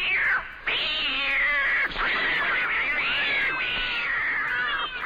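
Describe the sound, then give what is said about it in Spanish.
A kitten meows and caterwauls loudly, one long, wavering, strained cry after another with barely a pause, and no voices. “Cada vez que escuchas Game Over, Dios mata a un gatito.”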